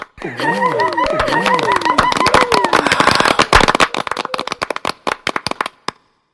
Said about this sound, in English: Later that night, she was caught walking as if on the moon. Screams and applause arose from every side of the room.